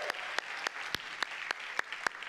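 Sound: audience cheering and applause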